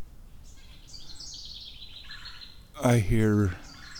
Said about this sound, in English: I hear my red-bellied woodpeckers. There's some other little bird who's hung, a little tiny dude. Some kind of finch. And they're very angry.